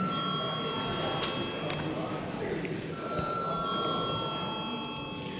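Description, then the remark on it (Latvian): A continuous electric bell rings steadily through a parliament chamber as the call to a vote, briefly dropping out partway, over a low murmur of background voices and room noise. “Paldies, lūdzu zvanu.”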